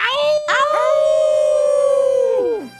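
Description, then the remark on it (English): A person imitates a wolf howl as the cue for "walk with the she-wolf": a couple of quick rising yips, then one long, loud, steady howl that bends downward and fades at the end. “Okay, from now on, walk with the she-wolf is the cue.”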